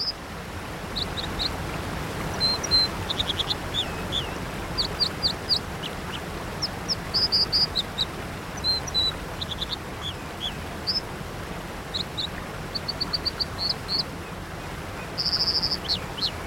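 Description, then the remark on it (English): An American dipper sings bright, high phrases of repeated chirps and short trills in quick bursts over the constant roar of a rushing stream and waterfall, with no voices. “As John Muir once wrote of the American dipper, it never sings in chorus with other birds, nor his kind, but only with the streams.”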